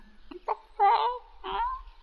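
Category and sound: bird, chicken clucking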